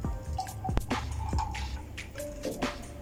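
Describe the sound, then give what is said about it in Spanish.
Apple soda pouring into a glass over ice, Chivas whisky and mineral water, with wet splashing, drips and gurgling trickles for a few seconds and no one speaking. “Refresco de manzana.”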